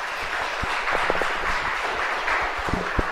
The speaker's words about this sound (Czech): Tak, super, šlo vám to líp teda, než jsem čekal upřímně, můžeme zatleskat.